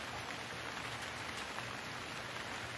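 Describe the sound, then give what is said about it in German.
Steady rain falls continuously, a dense, even hiss of drops spread across the whole range, with no breaks or voices, heard at a soft, constant level. “Hör den Klang des gleichmäßigen Regens und fühle wieder all die Möglichkeiten, die dich umgeben.”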